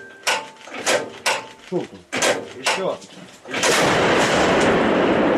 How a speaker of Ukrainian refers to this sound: Постріл!